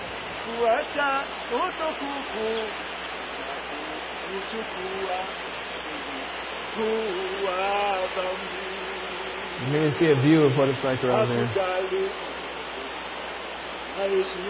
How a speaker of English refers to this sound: The noise is the river in the background.